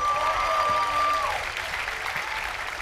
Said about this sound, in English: Please give this festival a round of applause. I know you guys love it.